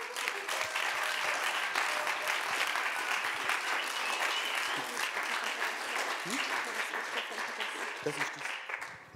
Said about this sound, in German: Bitte gebt einen grossen Applaus einem meiner grössten Heroes und meiner Ehefrau